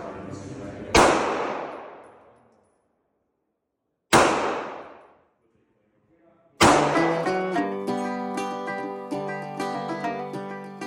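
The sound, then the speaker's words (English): Two loud, sharp gunshots a few seconds apart at Thistle Gun Range, a large outdoor shooting range in a canyon in Spanish Fork, Utah, each trailing off in a long echoing decay, then a third bang as steady music starts and continues to the end. “When I arrive, gunshots are ringing through the canyon.”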